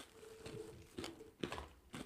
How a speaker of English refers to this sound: I'm chewing right into the mic so you can hear the crunch. I'm sure it's good for listening.